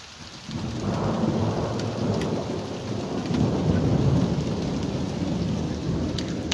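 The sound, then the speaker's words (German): A summer thunderstorm rumbles, deep rolling thunder swelling under a steady wash of heavy rain pattering on surfaces, continuous and fairly loud throughout, with no voices. “Wow, ich liebe Sommergewitter.”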